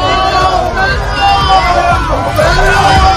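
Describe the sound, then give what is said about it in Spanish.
A loud crowd at the San Sebastián Festival cheers and calls out to greet Pedro Almodóvar on his 75th birthday, many voices overlapping in a dense, steady roar with some raised shouts rising above it for about three seconds. “Esta vez es el cariño del público que ha recibido así a Pedro Almodóvar en sus 75 cumpleaños.”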